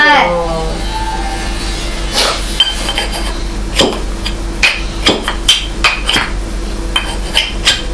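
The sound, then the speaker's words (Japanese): Sharp knocking taps land in an uneven series, fairly loud, a few with a hard, clinky edge, as someone knocks calling for a shopkeeper. A voice is briefly heard at the start. “お店屋さんいませんか。トントントン。”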